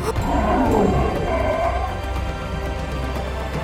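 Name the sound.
lions and tigers roaring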